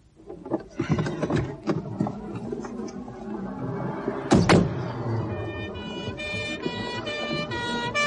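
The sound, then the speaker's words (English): A police car rolls up and stops behind a parked car, its engine rumbling beneath clattering street noise, with a sharp thud midway and a steady high-pitched tone sounding toward the end. “It's a police car drawing up behind ours.”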